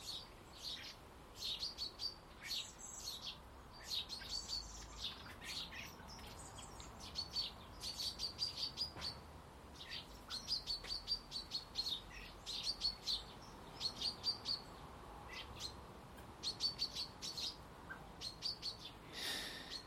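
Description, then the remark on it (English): Birds give repeated sharp, high alarm chirps in quick bursts one morning, calling insistently again and again over a steady low background hum, with no voices. “There's a panic in the bird world this morning again.”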